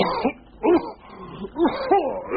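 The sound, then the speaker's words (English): A person coughs several times in a row, hoarse, throaty bursts with short pauses between them and no talking. “And a cough.”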